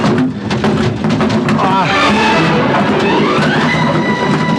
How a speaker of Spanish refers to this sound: El auto se ladea peligrosamente y volcándose sobre un costado, patina varios metros hasta estrellarse contra el muro de contención en la curva.